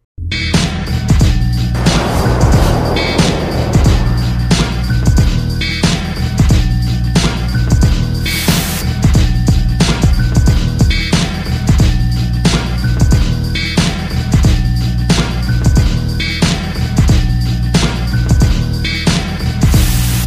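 A South African rap track plays loud and steady, with a heavy bass line and punchy, evenly spaced drum hits driving a repeating beat; no vocals stand out in this stretch.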